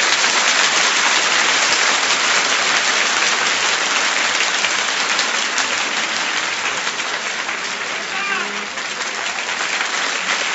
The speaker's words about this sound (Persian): اگه بهت بگن از اون کفایی بزن که تا حالا تو زندگیت نزدی چطوری دست میزنی؟